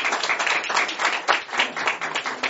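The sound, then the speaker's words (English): An audience applauds a presentation, a dense patter of many hands clapping at once, moderately loud and sustained throughout without letting up. “Yes, and while your presentation is not finished, I think we should give you an applause for what you have presented so far.”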